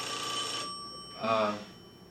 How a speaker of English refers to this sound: One of the advantages of that other office was that we didn't have to worry about the phone ringing. It didn't ring in there.